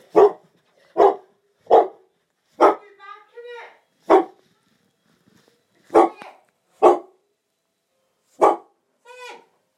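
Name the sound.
dog barking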